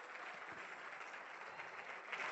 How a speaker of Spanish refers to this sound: El aplauso y la adoración es para Dios. Y se le da lo mejor, lo mejor, lo mejor, lo mejor.